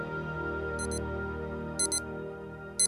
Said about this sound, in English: We're surrounded by alarm clocks these days. They're on our bedside tables, our computers, and our phones. Electronic reminders to get up and get going.